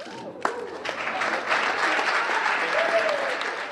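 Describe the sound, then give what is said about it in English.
Many students in a lecture hall stand and burst into sustained applause for toxicology professor Dr. Tim Evans, announced as a winner of the Kemper Teaching Award, starting with a few sharp claps and swelling into a dense, steady roar of clapping hands that continues for more than 30 seconds. “Many students stood up and applauded Evans for more than 30 seconds.”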